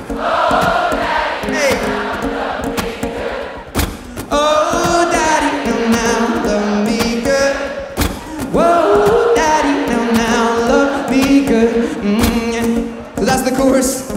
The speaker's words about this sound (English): So Glastonbury Festival, one more time, sing it as loud as you can and scream it out. It goes like this, sing out.